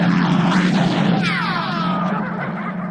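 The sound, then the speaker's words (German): A helicopter flies near a cliff face, moving in closer for a better shooting position; its low engine drone roars steadily while a higher whine sweeps and shifts, gradually easing off slightly toward the end. No voices. “Anyway, so, der ist in der Felswand, die Schüsse gehen schon, schlagen knapp neben ihm ein und der Helikopterpilot wird auch ermahnt, er soll jetzt näher ranfliegen, damit er eine bessere Schussposition hat.”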